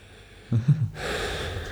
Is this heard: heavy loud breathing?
yes